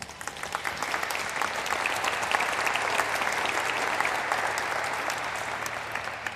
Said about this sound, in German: Tut mir einen Gefallen und begrüßt sie mit einem guten Applaus.